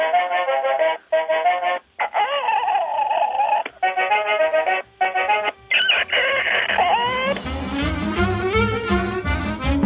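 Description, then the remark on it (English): A squeezed rubber chicken toy, an 'anger management chicken' grabbed around its neck, squawks loudly in a string of nasal, wavering honks separated by short pauses, each one bending in pitch, before music begins near the end. “Now, you'll hear some music, and then I'm going to grab it around its neck because it's an anger management chicken, and you'll hear what happens when you squeeze the chicken.”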